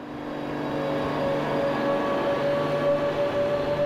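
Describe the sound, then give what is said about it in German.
Steady, fairly loud mechanical rumble with a sustained tonal hum at the Seehausen railway station, continuing unbroken for a few seconds with no voices. “Am Seehäuser Bahnhof, wo alles angefangen hat.”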